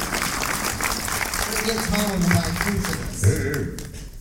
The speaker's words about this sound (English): And all right, give those two a round of applause.